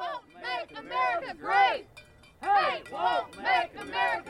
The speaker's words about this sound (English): Across the river at the other side of Riverside Park were the sounds from the anti-hate march.